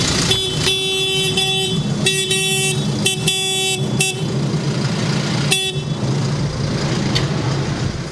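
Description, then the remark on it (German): A convoy of about 200 tractors, from Uslar, Duderstadt, Rossdorf and elsewhere, honks repeatedly at a protest in Göttingen city centre, several horns blaring in overlapping bursts over a constant low engine rumble, loud, with no one speaking. “Unter anderem aus Uslar, Duderstadt und Rossdorf kamen um die 200 Trecker zusammen, um in der Göttinger Innenstadt zu demonstrieren.”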